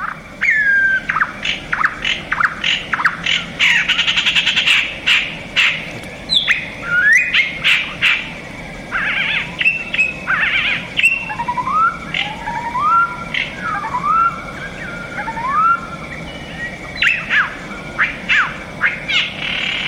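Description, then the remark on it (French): A marsh warbler, recorded in the Isère valley in France, sings a rapid, varied stream of chirps, harsh squawks and whistled phrases that mimic tits, sparrows, blackbirds and birds heard in Africa. The song is clear, with no talking. “ce petit oiseau, mais enrichis de toutes sortes d'imitations qui sont des imitations de mésanges, des imitations de moineaux, des imitations de merles”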